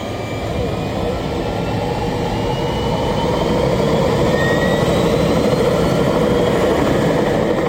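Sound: aircraft engine in flight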